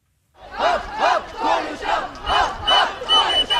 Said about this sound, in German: Konstanz am Bodensee. Über 1000 Mädchen und Jungen, mehrere Schulen brüllen sich ihren Unmut aus dem Leib. Die Politik tue viel zu wenig, um dem Klimawandel Einhalt zu gebieten.